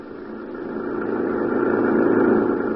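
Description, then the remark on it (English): A government jeep's engine runs with a steady, throaty rumble that swells slightly louder over a few seconds, a continuous mid-pitched drone with no voices, as the jeep heads back toward the city. “An hour later, Gino Romero and I were heading back toward the city in the government jeep, leaving behind us the wrecked plane, the crushed trees, and the lonely slope on the mountain.”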